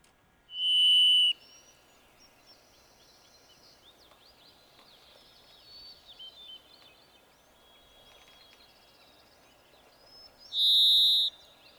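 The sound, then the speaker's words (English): Two long, pure, buzzy whistled notes from a varied thrush, a robin-sized bird that hides in trees, one near the start and one about ten seconds later, ringing out clearly over quiet forest ambience with faint chirps from other birds between. “That's a varied thrush.”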